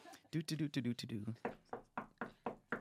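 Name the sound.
knocking on a door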